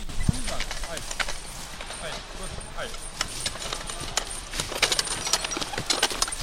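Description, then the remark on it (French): Horse hooves walking at a forestry work site in a forest: a steady, uneven series of sharp clip-clop knocks on the ground, moderately loud, over a constant soft outdoor hiss. “Venons-en maintenant au chantier qui a fait résonner dans la forêt les bruits criards des tronçonneuses, mais aussi les pas doux des chevaux.”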